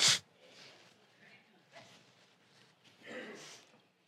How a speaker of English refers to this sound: Well, God, blow my nose.